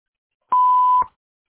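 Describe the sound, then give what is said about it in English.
A single steady electronic beep, a clean mid-pitched tone lasting about half a second, sounds alone with a faint click at its start and end: a voicemail answering machine signalling to record after its greeting. “Please leave a detailed message and we will return your call.”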